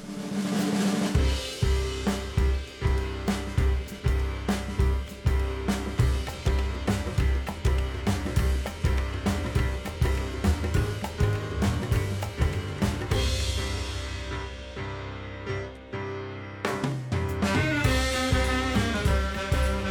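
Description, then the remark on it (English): South Asian jazz with clarinet from a new album: sustained reed melodies over a steady, busy percussion beat, loud throughout, thinning briefly near the end before the full groove returns. No one speaks. “a profile of his brand new album, …, featuring tantalising sounds like this.”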